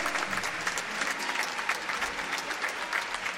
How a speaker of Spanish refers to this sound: Uma salva de palmas para os Improvisados. Muito obrigado.